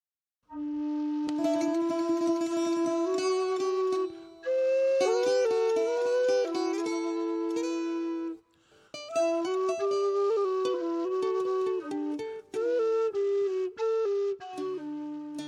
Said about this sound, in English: I hope you enjoyed that little outro there of Irish Low Whistle and Bouzouki I recorded especially for Sasha's ad.